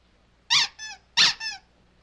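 A rubber toy duck, the favorite toy of a dog named Fang, squeaks twice, each squeeze giving a loud, bright squeal followed by a softer, lower wheeze as it refills. No voices or other sounds around it.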